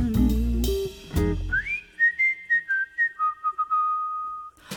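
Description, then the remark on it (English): Someone whistles a short, simple tune: a rising glide, then a string of clear, separate notes that dip and settle onto a long held tone, after a brief burst of other sound. “I don't think you're handsome, 'cause if I really did, I'd whistle a little tune.”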